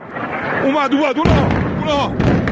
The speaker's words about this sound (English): Loud explosions rip through the streets of Tehran. Columns of smoke tower in the skies, around military targets, in residential areas.